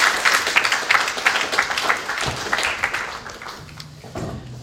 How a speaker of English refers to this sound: All right, let's give everyone a round of applause.